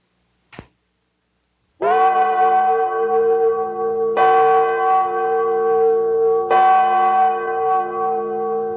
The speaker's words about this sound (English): Years ago, the Liberty Bell tolled the beginning of our life as a nation.